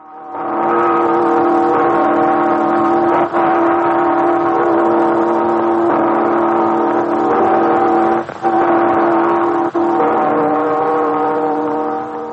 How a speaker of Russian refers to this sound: Послушайте редкую запись 1926 года. Звучат колокола звонницы Юрьевского монастыря под Новгородом. Звонница построена Растрелли в 1760-м, разрушена большевиками в 1926-м.